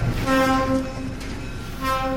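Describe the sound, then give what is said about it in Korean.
A slow train, travelling at about 10 km/h on a railway through a village, rumbles past, its horn sounding a long, steady blast early on and again near the end over the continuous low rolling noise. “기차가 지나갈 때면 땅이 흔들렸지.”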